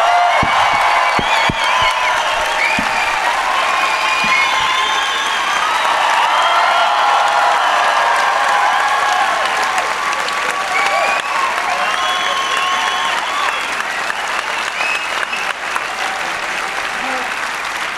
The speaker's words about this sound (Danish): I får større applaus end os. Det er ikke fedt.